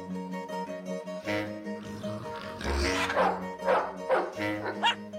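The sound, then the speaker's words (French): A dog barks several times in short bursts in the countryside, over a steady tonal background hum, with some faint voice-like sounds mixed in. “Votre chien, c'est un vrai con. Il fait chier tout le monde, toute la nuit à aboyer comme un cinglé.”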